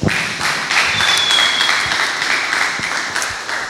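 An audience breaks into steady applause, many hands clapping in a dense, even patter that holds at a fairly loud level for several seconds, with a faint high whistle-like tone briefly riding over it.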